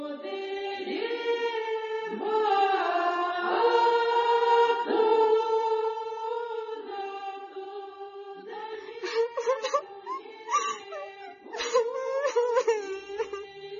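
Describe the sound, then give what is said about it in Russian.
A 17-year-old serf bride sobs and whimpers at her wedding in the village of Nikolskoye, Tambov Governorate, drawn-out wavering wails giving way to shorter, broken, catching cries toward the end, with no other sounds around her. “коровы-то не реви, никуда от ентова не денешься, така уж господская воля.”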